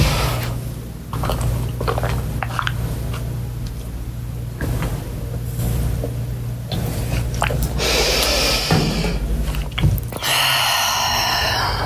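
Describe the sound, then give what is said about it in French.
Someone drinks a large glass of water, with a run of gulps and swallowing sounds over a steady low hum, then a brief brighter rustle at the end. No one speaks. “Voilà, je vais boire un grand verre d'eau, parce que ça me fait du bien.”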